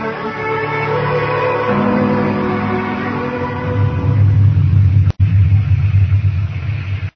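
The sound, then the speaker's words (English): A loud, steady roar of storm wind and rain with deep rumbling underneath, continuous, swelling slightly toward the end, with no voices. “You can't leave the critters out in a storm like this, Ma.”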